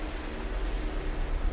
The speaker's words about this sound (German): Und? Hörst du schon die Wellen des Meeres?